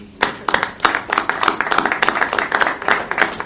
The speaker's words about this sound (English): Unanimous budget. How about a round of applause for the staff?